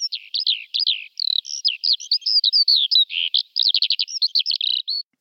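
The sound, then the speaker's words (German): A songbird sings a rapid, varied song for about five seconds: high, bright trills, whistles and fast chattering notes in quick bursts, strong and clear with no voices. “Und hören wir nochmal das Original?”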